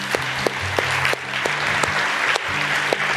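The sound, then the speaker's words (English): A crowd at a Christian gathering applauds steadily after a prayer of surrender to Christ, a dense wash of many hands clapping with a few sharper individual claps popping out, accompanied by a low sustained musical hum underneath. “They're clapping because they've been in your place.”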